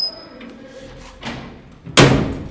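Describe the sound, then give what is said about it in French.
Heavy metal prison doors clank and rumble as they open at Bolé prison in Mali, with a few scraping sounds before a loud, resonant bang near the end, without any talking. “Les portes s'ouvrent.”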